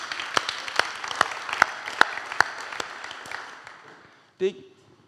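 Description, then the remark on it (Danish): An audience applauds, a dense wash of clapping punctuated by steady, evenly spaced sharp claps, about ten in a row, then fading out before a brief voice sound at the end. “Det må godt lige få en klapsal, ikke også?”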